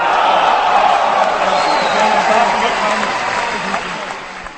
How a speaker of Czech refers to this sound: O jedno kolo dál než Korbel až do osmifinále to dotáhl Josef Šimončík. Po jeho triumfu nad zkušeným Chorvatem Zoranem Primoracem bylo ostravské publikum v extázi.